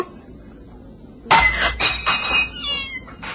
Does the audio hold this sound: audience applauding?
no